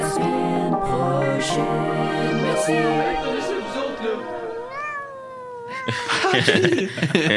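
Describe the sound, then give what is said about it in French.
A short 'bonne semaine' jingle made of cat meowing noises, layered into sustained, sliding tones that run continuously for several seconds before a brighter, busier burst near the end. “Vous utilisez des bruits de chat, créez-les.”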